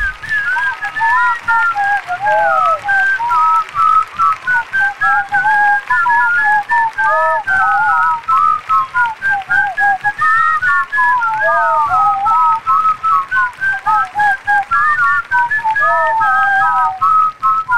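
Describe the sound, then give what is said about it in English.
A loud whistled melody carries a classic rock tune, warbling up and down continuously with no pauses, over a faint crackly, hissing background; nobody speaks. “Hear your favorite classic rock tunes. Whistled.”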